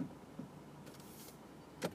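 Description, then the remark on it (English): Low car interior rumble with a soft rustle of movement, then a single solid thunk near the end, as a young man gets into his car, settling into the seat and pulling the door shut. “My young Asian friend getting in his car.”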